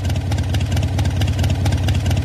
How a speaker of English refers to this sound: There. I've just taught you how to do a mean impression of a Harley-Davidson motorcycle with a V-twin engine at idle. Harley-Davidson of Milwaukee has now abandoned its six-year effort to defend its trademark protection for that sound.